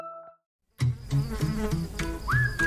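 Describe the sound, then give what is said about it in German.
After a brief tone and a moment of silence, a loud bee buzzes steadily for about two seconds, its droning hum wavering in pitch as it moves around. “Ja, und da geht es heute um Bienen.”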